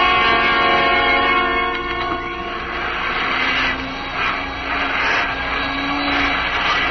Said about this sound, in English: Turn that vacuum cleaner off for a minute, will you, and come over here.